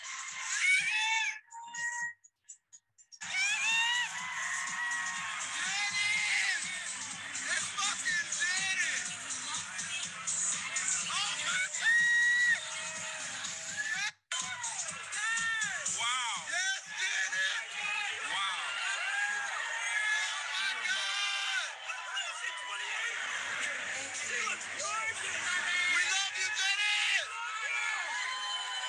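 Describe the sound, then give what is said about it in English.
A woman fan screams excitedly and continuously right by the stage at a live event on seeing a performer in person for the first time, her shrieks rising and wavering over a loud, roaring crowd, with only a brief pause early on. “Like, why am I screaming like that?”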